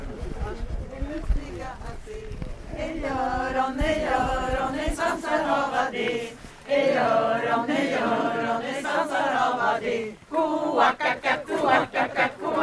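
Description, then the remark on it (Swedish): An audience spontaneously sings together loudly and steadily at the inauguration of the frog ponds in Alby, the group's sustained tones rising and falling for several seconds with a brief pause partway through. “Här började publiken spontant sjunga.”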